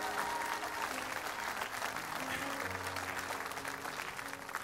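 An audience claps steadily as a clap offering of praise to the Lord, dense applause filling the whole stretch at an even loudness, with a low murmur of voices and a faint sustained tone underneath.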